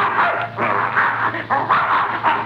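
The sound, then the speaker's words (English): A mad dog named Adolf, being chased by a bear, barks loudly and repeatedly in quick succession, the sharp woofs coming in an uneven, agitated rhythm over a low steady hum, with no talking. “Well, I'll be darned, there's that mad dog, Adolf.”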